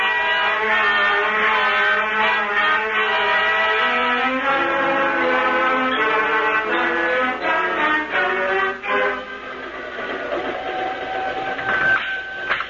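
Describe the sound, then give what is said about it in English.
A train pulls into Rome with a steady mechanical roar, layered with sustained tonal whistle-like notes and squealing brakes that shift in pitch before easing off near the end. “Now, why don't you just sit down and relax till Mike Waring's train pulls into Rome, huh?”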